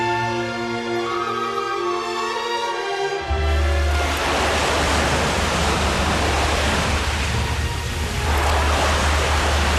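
Sea waves wash onto the shore near the Gaiola underwater park in Posillipo in a loud, steady roar, with a surge near the end. A low droning hum plays for the first few seconds before the surf takes over.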